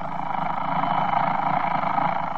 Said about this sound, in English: Take, for instance, that alarm clock.